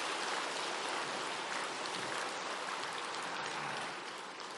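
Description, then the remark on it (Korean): A crowd claps loudly and steadily for the seniors' group of the Busan district after their song at a camp, a dense, even wash of many hands that holds for several seconds before easing slightly at the end. No one speaks over it. “저는 그라시아스만 이런 노래 부를 수 있는 줄 알았는데 예, 우리 실버들 부산구역 실버 다시 한번 큰 박수 부탁드리겠습니다.”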